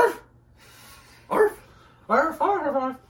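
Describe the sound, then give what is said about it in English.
A person mimics a dog with about four loud, voiced bark-like yelps, the first two spaced apart and the last two in quick succession, with no other talking. “He barks like a dog.”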